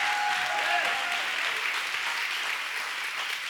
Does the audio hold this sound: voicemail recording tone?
no